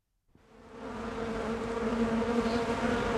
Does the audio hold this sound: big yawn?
no